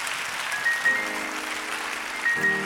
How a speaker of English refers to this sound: Will you give God a hand clap of praise?